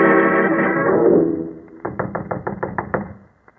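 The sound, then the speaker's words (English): A sustained, droning musical tone fades out, then a rapid series of about seven or eight sharp knocks raps on the door of a professor's cottage at Boar's Hill, fairly loud and evenly paced, with no voices. “Knock once more, Watson.”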